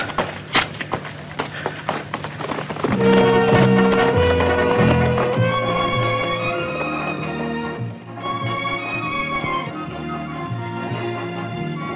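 Horses galloping, a quick run of hoofbeats clopping over the first few seconds before a loud swell of orchestral music takes over and carries on to the end.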